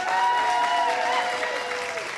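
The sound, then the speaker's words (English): An audience claps steadily to vote on which contestant will win a game. A dense wash of applause holds at an even loudness for a couple of seconds, with faint voices mixed in. “By applause.”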